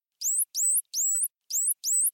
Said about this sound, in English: The dolphin whistle. But what exactly is that dolphin saying? My next guest is trying to find out.